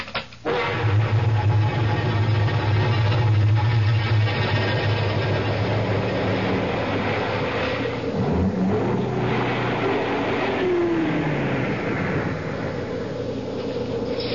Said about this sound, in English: I guess this is as far as the car can take us.